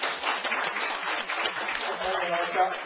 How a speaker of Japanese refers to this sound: 今の1号から3号議案についてですね、承認される方、拍手でお願いいたします。